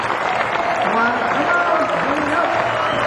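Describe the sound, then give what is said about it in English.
Steady, dense applause from a sizable audience welcoming musicians as they are introduced, with a voice faintly audible underneath the clapping. “As I introduce these gentlemen, would you please give them a nice welcome? Applause.”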